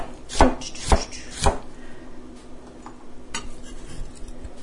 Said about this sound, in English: Now I'm slicing the carrots. And these, I'm doing kind of the same thing where I'm slicing them lengthwise, a bit sloppily, admittedly, and then going in and chopping crosswise in little pieces.